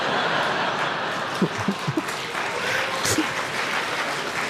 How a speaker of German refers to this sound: Ja, da lässt der Applaus jetzt schon ein wenig nach.